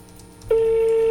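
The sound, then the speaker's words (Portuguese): A telephone keypad tone sounds abruptly halfway through as someone dials the public lighting service of Santa Rita, a single steady, clear electronic beep held at constant loudness to the end, following a quiet stretch of faint background noise. “Vamos ver o que, que acontece. Vamos lá. Ligando.”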